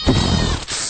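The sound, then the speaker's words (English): A human voice imitates a goat's bleat in one wavering, nasal cry lasting under a second, followed by a brief breathy tail. “Hit them goats up.”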